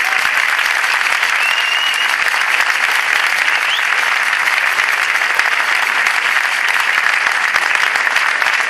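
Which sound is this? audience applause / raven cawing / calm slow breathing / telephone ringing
audience applause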